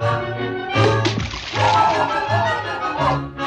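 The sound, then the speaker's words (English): Repeated, uneven splashing and thrashing in water over a few seconds, fairly loud, set against a steady tonal musical background: Dopey the dwarf flailing about in the water. “In the water, Dopey flails about.”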